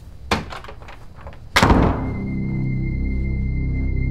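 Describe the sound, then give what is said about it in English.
A faint click, then a door shuts with a single heavy thud as a man heads back inside; afterward a low, steady background hum lingers with no one speaking. “Ethan raises his eyebrows with a nod, then heads back in.”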